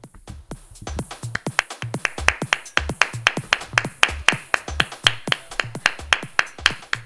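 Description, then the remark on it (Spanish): A woman in the audience claps steadily, sharp hand claps in a quick, slightly uneven rhythm that carries on for several seconds with no talking. “Una señora del público le aplaude.”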